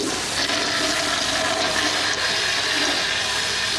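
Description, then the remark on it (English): A toilet flushes in one continuous rushing, gurgling whoosh of water, loud, filling the whole moment with no voices over it. “Flush it, flush it, flush it!”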